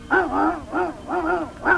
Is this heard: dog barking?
yes